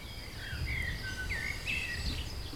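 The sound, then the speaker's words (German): Quiet outdoor ambience at dusk, with the sun almost gone, faint, steady cricket chirping and a few birds calling in soft, sliding whistles over a low rumble. “Es ist so still hier auf einmal. Ich höre Grillen. Und Vögel.”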